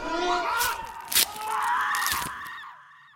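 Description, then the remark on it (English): Shrill, wavering screams overlap continuously for about three seconds, loud, with a few sharp bursts before trailing off. “Screams.”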